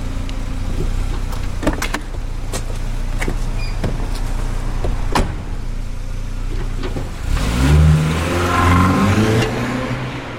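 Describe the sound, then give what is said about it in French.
A car engine idles with a low rumble amid clicks and thumps, then revs up and pulls away, the pitch rising as it accelerates. No one speaks. “Montez dans la bagnole”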